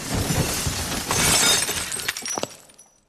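Idols being smashed with an axe: a loud burst of crashing and shattering, then scattered clatters of falling fragments that thin out into silence. No one speaks.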